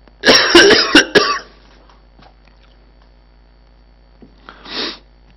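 A loud burst of harsh coughing, several rapid hacks in a row, then a pause and one shorter throat-clearing cough a few seconds later. No one speaks.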